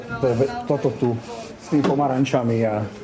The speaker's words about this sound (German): Durch die Tür klingt das konzentrierte Stimmengewirr aus der Redaktion herüber.